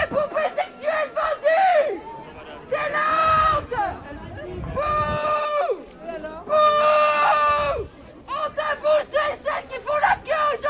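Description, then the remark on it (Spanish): A crowd of protesters shouts and chants in loud, sustained bursts, voices strained and overlapping, with brief pauses of murmuring between the louder cries, protesting the opening of a Shein physical store in Paris and shouting that minors must be protected, not China. “Que hoy ha sido recibida así, entre protestas que gritaban hay que proteger a los menores y no a China.”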